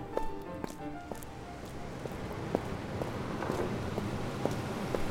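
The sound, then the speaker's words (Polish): Quick footsteps hurry along, a series of sharp, uneven steps over a steady background hiss, with no voices. “W lewo i przed siebie. Uspokój krok.”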